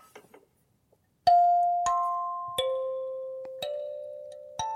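A kalimba plays five plucked notes in a slow, uneven melody, each mid-pitched tone ringing out and overlapping the next. The notes are fairly loud and heard alone, with no talking.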